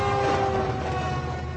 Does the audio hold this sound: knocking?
no